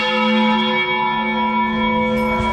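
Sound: church bells ringing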